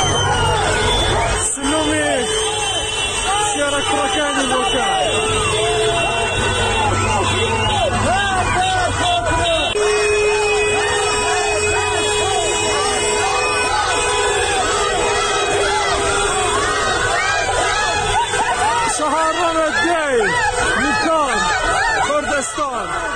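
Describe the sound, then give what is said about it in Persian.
A large protest crowd in Bukan, gathered after a fortieth-day memorial for those killed in recent protests, shouts and chants slogans including "death to the dictator" loudly and steadily, many voices overlapping in a dense, continuous roar with rhythmic bursts of yelling throughout, no single voice standing out. “تجمع در بوکان به دنبال برگزاری مراسم 40 جانباختگان اعتراض‌های هفته‌های گذشته شکل گرفت و معترضان شعارهایی از جمله مرگ بر دیکتاتور سر دادند.”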